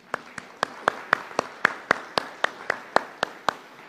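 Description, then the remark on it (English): A church audience applauds the decorating committee in a steady, even rhythm: about fourteen sharp, crisp claps land in quick succession, roughly four per second, fairly loud with no talking over them. “You really dressed it up, and I think we all should applaud them.”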